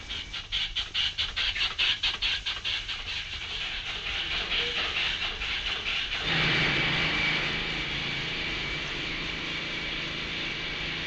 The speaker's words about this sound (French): manient des appareils qui ressemblent à des marteaux pneumatiques, qui n'en sont pas d'ailleurs, ce sont des injecteurs, qui envoient dans la couche de sol sur laquelle repose le tunnel du métro des mètres cubes de ciment.